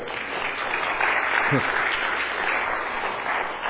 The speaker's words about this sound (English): I will tell her that you gave us a round of applause, gave her a round of applause